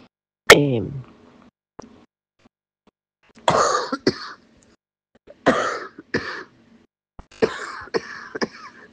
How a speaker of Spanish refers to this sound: Ay, perdón, no voy a poder más porque me está dando la tos.